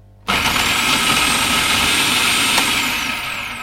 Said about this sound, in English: Put that all in my processor and whiz that up together.